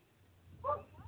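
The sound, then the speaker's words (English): A single short dog bark rings out over a low, steady background hum, moderately loud, with a fainter yelp trailing just after. “You hear the dogs in the background. They seem to be aware of what's going on.”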